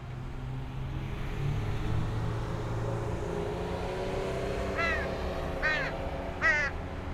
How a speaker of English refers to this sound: I've been feeding a crow. Yeah, I'm talking about you. It's crazy smart. Comes as soon as I bring out my laptop like it's learned. Hasn't brought me any shiny gifts like you read about online, but it returns time and time again. Reliable.